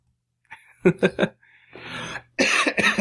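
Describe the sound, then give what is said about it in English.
A harsh cough in three quick bursts, then a raspy breath in, followed by another loud, rough round of coughing. “Well, now that I've coughed, it's the end.”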